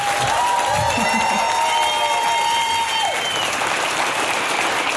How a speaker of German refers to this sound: Gebt Ihnen vier nochmal einen richtig grossen Applaus.